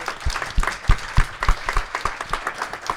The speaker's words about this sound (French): Donc déjà, on peut l'applaudir rien que pour ça.